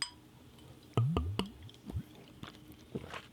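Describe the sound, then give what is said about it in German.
Glass drink bottles clink together a few times in quick succession in a toast, short bright knocks, followed by softer handling sounds and faint gulps or fizz. “Dann sag ich mal, Brohust.”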